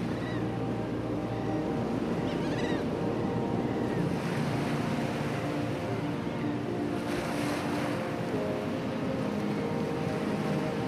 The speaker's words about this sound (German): Der Tag erwacht zum Leben und so auch der rauschende Atlantik.